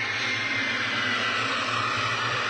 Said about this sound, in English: Oh, let me forgot my little plane sound here. Oh, there we go.